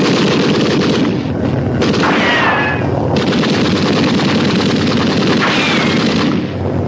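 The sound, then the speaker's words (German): Sustained, dense gunfire, fired on a shouted order to fire, rattles on without pause, a loud continuous barrage of rapid shots with a few whining ricochets cutting through. No one speaks. “Okay, wir haben euch gewarnt. Ganz ruhig. Sie wissen nicht genau, wo wir liegen. Feuer!”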